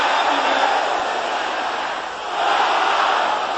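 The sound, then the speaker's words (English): An audience of brothers and sisters shouts together in a continuous, loud roar of many overlapping voices, the brothers urged to shout louder than the sisters. The noise dips briefly partway through, then surges back just as strong. “Brothers, shout it louder than the sisters.”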